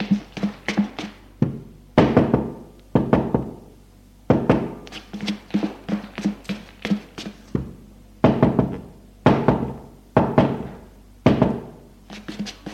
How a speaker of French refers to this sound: Il frappe aux portes des filles.